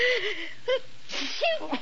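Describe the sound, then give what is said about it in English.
A person sneezes, with a wheezy, voiced build-up of sharp breaths before a breathy burst, all within a couple of seconds. “Gesundheit.”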